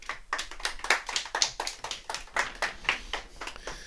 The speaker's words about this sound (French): Bravo à vous, vous pouvez vous applaudir, on va vous entendre.